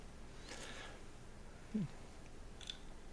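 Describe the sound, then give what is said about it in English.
A quiet sip from a blood orange whiskey sour cocktail: a soft, airy slurp, then a brief low gulp and a tiny click, all faint with no talking. “I leaned back to take my sip because I read an article in the last week of things on podcasts that bother people.”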